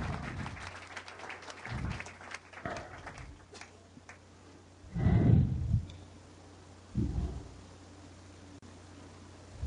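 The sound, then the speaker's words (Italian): An audience applauds a group called Roma throughout, a steady patter of many hands clapping that swells in louder bursts, with low thumps and a faint background hum underneath. “Grande applauso.”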